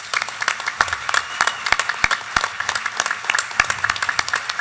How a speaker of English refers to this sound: I want to give a quick shout out to Senator Floyd Prezansky, who's here. Let's give him a quick round of applause.